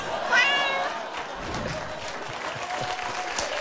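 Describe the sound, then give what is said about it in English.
A single short cat meow rings out clearly near the start, rising in pitch, as a sponsor tag for Meow Mix closing Larry Wilmore's Catty Movie Comments segment, then fades into a steady wash of audience applause that carries on to the end. “This has been Larry Wilmore's Catty Movie Comments, brought to you by Meow Mix. Meow.”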